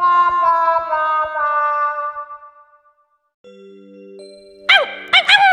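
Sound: dog barking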